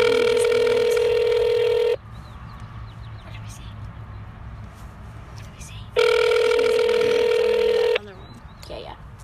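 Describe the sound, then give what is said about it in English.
Outgoing call ringing over a phone speaker: two long, loud ringback tones about four seconds apart, with faint birdsong and a low background hum in between. “Are you typing in a random number?”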